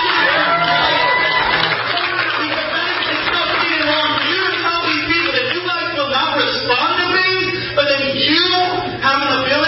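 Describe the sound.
An audience applauds amid loud, continuous crowd noise, with cheering and overlapping voices filling the whole stretch at a steady level.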